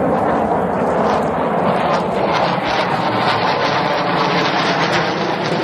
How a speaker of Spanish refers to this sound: Pues estás escuchando el sonido del avión de combate MiG-29, que como ocurrió hace unos meses con los carros de combate Leopard, se convierten ahora también en protagonistas.